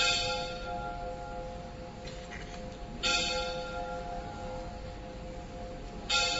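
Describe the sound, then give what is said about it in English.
A bell rings steadily with sustained metallic tones, struck again at intervals with brighter clangs, fairly loud and resonant with no voices over it. “Let's wait for the bell to stop.”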